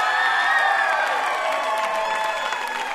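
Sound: crowd cheering and applauding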